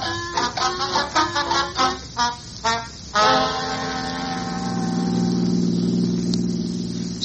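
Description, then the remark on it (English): A car engine sputters through several rhythmic cranking bursts, then catches and settles into a steady, rumbling drone as the vehicle pulls away, driving back toward the city, with no one speaking. “Come on, let's drive back down to the city again.”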